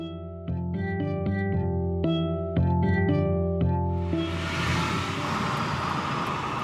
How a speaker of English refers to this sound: I'm riding around in the car